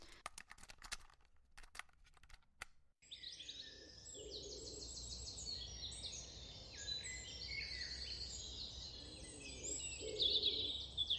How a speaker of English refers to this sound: So we have wood pigeons... I'm guessing dawn chorus.